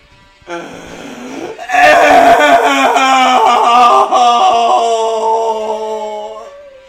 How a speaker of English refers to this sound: You can't scream that much.